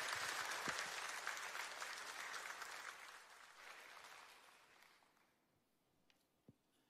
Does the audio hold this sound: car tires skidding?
no